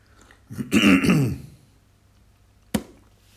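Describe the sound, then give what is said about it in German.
A single throat clearing, fairly loud, lasting about a second, followed by a short pause and then a brief sharp click. “Und ich habe hier eine Räusper.”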